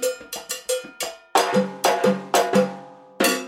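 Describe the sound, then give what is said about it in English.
A handcrafted Yuli Percussion cowbell of the kind used by salsa bands is struck about a dozen times in a syncopated rhythm, a few quicker, softer hits first, then louder, ringing metallic clanks that alternate between two pitches. No one speaks. “Meanwhile, Yuli percussion cowbells are signposts for staying on beat.”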